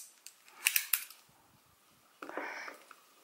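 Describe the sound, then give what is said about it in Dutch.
Handling noises: a few sharp clicks and taps, a pause, then a stretch of papery rustling as a pen, paper and tape measure are picked up and set down during crochet work. “En ik pak even weer pen en papier erbij en de centimeter.”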